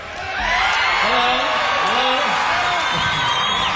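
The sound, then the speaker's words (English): A crowd cheers wildly, many voices whooping and shouting over one another in a dense, steady roar that swells quickly and stays loud throughout. “Crowd going crazy.”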